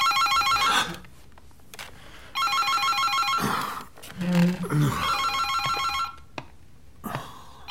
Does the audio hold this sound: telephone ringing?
yes